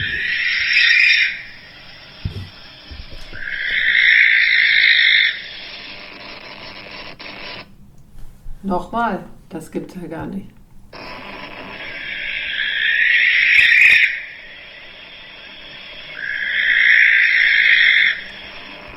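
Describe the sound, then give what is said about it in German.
A recorded bird gives loud, harsh, high-pitched screams in repeated bursts, two before and two after a short spoken remark, with a steady hiss underneath. “Ich wollte jetzt mal den Schrei abspielen.”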